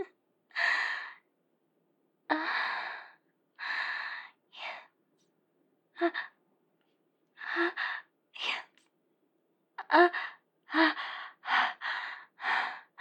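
Heavy panting breaths, roughly a dozen sharp, airy gasps and exhales coming in uneven bursts with brief pauses between them, fairly loud and breathy, with no talking.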